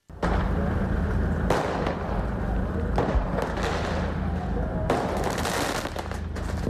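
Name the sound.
fireworks exploding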